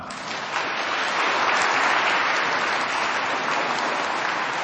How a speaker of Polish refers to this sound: Gorące brawa!